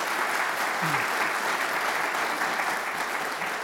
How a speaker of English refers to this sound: And I think they need a round of applause for that.